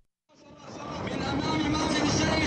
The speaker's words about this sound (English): A truck flying the green flags of Hamas winds through the streets of Beit Lahia in northern Gaza, calling on Palestinians to attend the funerals of two Hamas gunmen killed in an Israeli airstrike on Sunday.